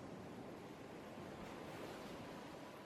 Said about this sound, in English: You can see and hear a wild ocean, the waves climbing and crashing, their rhythmic noise calming and soothing.